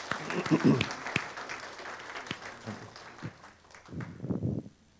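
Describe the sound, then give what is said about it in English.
A church audience claps for women who had shared their stories, a dense, steady patter of many hands, with voices calling out over it near the start and again toward the end as the clapping tapers off. “Would you give them a round of applause for doing such a great job?”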